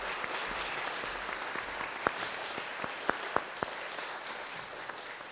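An audience applauds at a church baptism service, welcoming a newly baptized girl: a steady wash of clapping with a few sharper individual claps standing out near the middle and end, moderately loud and with no talking over it.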